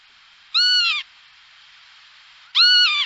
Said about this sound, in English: All right, our bird call this time around is a bird we talked about earlier in the program, your favorite little lapwing. The northern? Oh, listen to that.